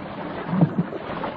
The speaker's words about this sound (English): go soak your head at the pump, she says. And I do it.